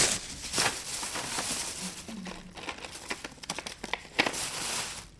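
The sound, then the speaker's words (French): Quiet rustling and crinkling of paper being handled, with soft scattered taps and scrapes as a pen that does not work is picked up and tried, continuing in irregular bursts with no talking. “Si j'avais un stylo qui marche, ce serait mieux.”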